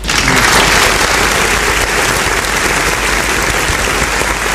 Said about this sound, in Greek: Α, είπα να χειροκροτήσουμε, αφού έχω χειροκροτήματα ρε πούστε εδώ.